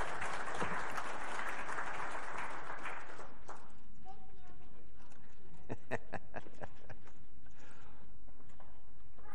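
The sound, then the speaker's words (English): A burst of audience applause at a church service for the children who came up front, dense and loud for about three seconds, then thinning into scattered individual claps with a few voices murmuring underneath. “Well, thank you, kids, for coming up, and let's give them a round of applause and fruit snacks.”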